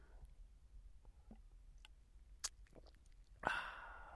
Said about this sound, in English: Mind you, it could have been because of this lovely wine that I'm drinking. Just a second, let me have a sip.